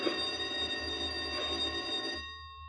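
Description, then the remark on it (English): A loud electric no-talking bell rings at lights-out, continuously for about two seconds with a bright, metallic buzzing tone, then cuts off and leaves a short ringing decay over a low background hum. “There goes the no-talking bell.”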